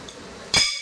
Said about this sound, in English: So those will also be incorporated into the when he bangs once with the two sticks and then he'll turn and...